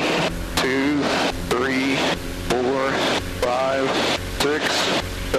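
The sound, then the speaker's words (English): A light airplane engine roars steadily at full power with brakes released for a short takeoff roll, loud, with a man talking over the constant drone throughout. “we're gonna try a short takeoff”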